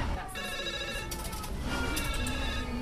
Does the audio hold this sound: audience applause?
no